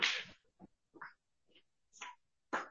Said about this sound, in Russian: Слыха, Мишушам, кто-то стучит.